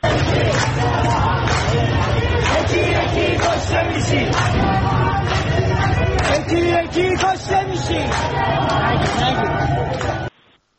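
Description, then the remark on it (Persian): A large protest crowd in the Tehran bazaar, Iran, chants and shouts together in a dense, continuous roar of many voices, loud and energetic throughout, with rhythmic bursts of chanting before the sound cuts off abruptly at the end. “صدای مردم در بازار تهران رو بشنویم.”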